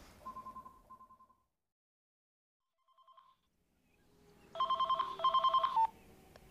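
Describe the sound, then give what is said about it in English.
A mobile phone rings in short electronic trilling bursts, a quieter ring first, then a pause, then two louder, buzzy rings. No one speaks. “Oh, sorry, that's my mobile.”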